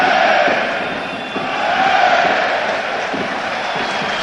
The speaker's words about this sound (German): Einen höhnischen Applaus und ein höhnisches Feiern der eigenen Mannschaft dafür, dass sich den Ball in der eigenen Hälfte zuschieben kann. Da wurde also jeder Ballkontakt also dann mit einem Hey ja abgefeiert.